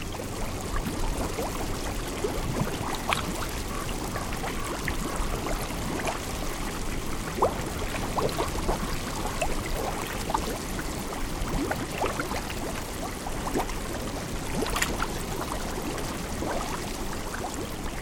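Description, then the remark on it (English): Water from a small hot spring bubbles and gurgles steadily into the Yellowstone River, a continuous churning with scattered pops and splashes over a broad watery rush, no voices. “This small hot spring percolates right into the Yellowstone River. Jeff Rice enjoyed the bubbling and recorded it for the University of Utah Marriott Library, westernsoundscape.org.”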